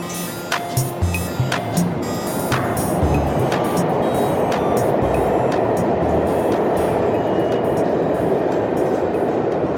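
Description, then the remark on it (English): A New York City subway train rumbles, with a few sharp metallic clacks at first before settling into a loud, steady roar of wheels on track. “Galen Smith lives in Brooklyn and works in Manhattan, and so he spends a lot of his time riding the subway and waiting for the subway.”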